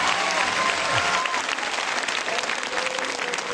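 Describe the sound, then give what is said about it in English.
Steady applause from a sizable audience thanking Supreme Master Ching Hai, dense clapping at an even, fairly loud level throughout the few seconds without a break. “Let's express our heartfelt thanks and deep gratitude to Supreme Master Ching Hai with a big round of applause.”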